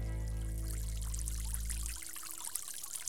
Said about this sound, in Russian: Тогда он обхватил тучку сильнее и стал сжимать ее, как сжимают мочалку или губку, когда хотят выжать воду. И надо же, из тучки и впрямь полилась вода, точно так же, как она льется из губки или мочалки. Получился маленький, но очень густой дождик.